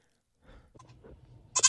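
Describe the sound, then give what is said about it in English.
A goat bleats in short, wavering cries, ending in a sudden loud, strained call with no one speaking. “Goats are just hilarious in general.”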